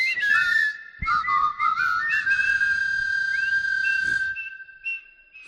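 crowd, stadium crowd whistling

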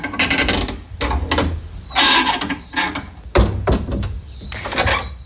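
household object, house door being opened

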